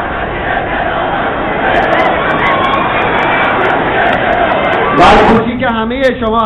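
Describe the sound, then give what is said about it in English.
A dense, loud crowd roars continuously, many voices blending into a rhythmic mass chanting slogans in support of the president, followed near the end by a single voice speaking over the fading noise. “The crowd is chanting slogans in support of the president.”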